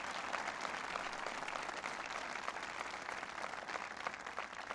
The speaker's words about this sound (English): First of all, please give Mark another round of applause for his hospitality.